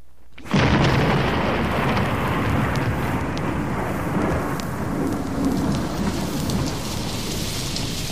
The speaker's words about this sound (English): On this day in Washington, 100 years ago, the flags in the Capitol drooped in rain. Water splashed through the streets, churning the mud of Pennsylvania Avenue into a gooey paste.